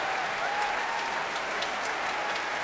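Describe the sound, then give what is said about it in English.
Sustained applause from a large concert audience for the orchestra's principal horn, under music director Manfred Honeck, a dense steady wash of clapping with scattered sharper claps standing out, holding at an even level throughout. “Applause there for William Caballero, principal horn.”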